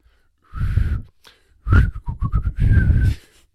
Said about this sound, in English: He was whistling as he worked.